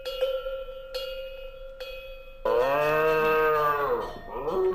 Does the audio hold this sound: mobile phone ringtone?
no